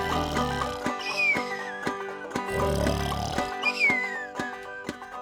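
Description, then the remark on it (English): Two exaggerated, cartoonish snores of a coyote, each a low rattling rumble followed by a descending whistle, repeated in a slow rhythm over steady musical accompaniment with a ticking beat; a voice imitates the snoring. “Now that coyote, he's a snoring.”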